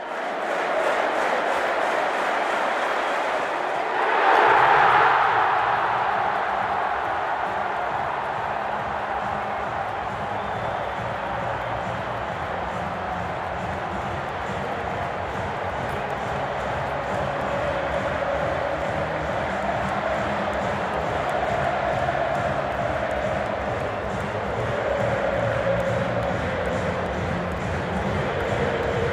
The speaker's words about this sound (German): Das letzte von 86 Toren von Erling Haaland in 89 BVB-Spielen. Da haben wir die Minuten des Tores nochmal samt Jubel aufgenommen. Also hört hier mal gerne rein.